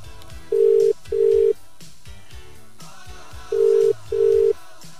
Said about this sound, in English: I've got the number. It should be dialing any time. Here we go.